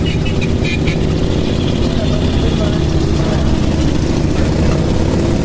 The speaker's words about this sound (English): Quite a strong odour of fuel in the hot sunshine, and more motorcycles coming through.